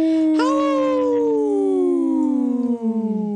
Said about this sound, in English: I was looking for this, Wendy. Yeah, the wolf. Howl!